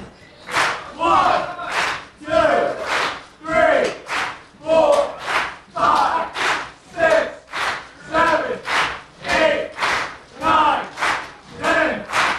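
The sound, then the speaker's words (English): A crowd of voices chants a loud, steady "oom" over and over in an even rhythm, about one shout per second, while others do a set of ten push-ups, with each burst rising and falling like a group war cry. “We don't have music, so I guess if everyone else that's not doing push-ups, if you could just go, oom, oom.”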